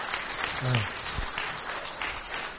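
A church audience applauds to welcome two guests coming to minister on Pastor Appreciation Day, in a steady, dense wash of clapping that holds at an even level throughout, with a brief murmur of voices and a low thump early on.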